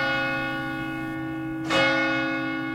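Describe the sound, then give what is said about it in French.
Church bells ring in the distance with a sustained, rich harmonic hum, a fresh strike adding a brighter clang partway through as the tones keep resonating and decaying. “Il y a le son des cloches qui résonnent au loin, annonçant aussi bien que l'aiguille s'est déplacée sur un nouveau chiffre, qu'une célébration, plus ou moins festive selon s'il s'agit d'un moment de vie ou de deuil.”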